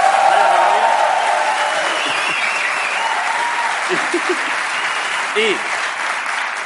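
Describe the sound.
Sustained applause from an audience for an older man from the audience at a comedy show fills the space, a dense wash of clapping that stays steady throughout, with a few faint voices calling out briefly beneath it.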